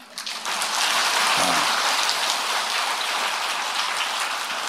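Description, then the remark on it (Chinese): A crowd claps steadily for several seconds, a dense, even patter of many hands at moderate loudness that rises quickly at the start and then holds without building, with no voices over it. “掌声不是太热烈，下半部就不讲了。”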